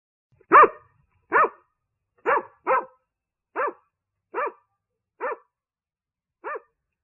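A dog barks eight times in a loud series of single sharp barks, spaced roughly evenly with a longer pause before the last one; no voices are heard.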